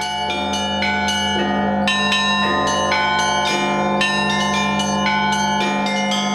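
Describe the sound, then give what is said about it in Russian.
A full ensemble of 15 cathedral bells, over 30 tonnes in total, rings continuously from a historic cathedral bell tower in St Petersburg, Russia, played by bell ringers, with many overlapping strikes in a rapid, layered rhythm over a deep sustained hum. The peal is loud, with no voices. “На сегодняшний день полный колокольный ансамбль составляют 15 колоколов общим весом более 30 тонн.”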